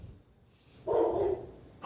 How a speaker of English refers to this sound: our dog is barking.